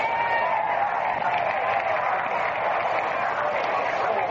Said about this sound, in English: the first man to bat, a Cincinnati boy, gets a tremendous hand from the crowd. It's Big Vito Lombardi.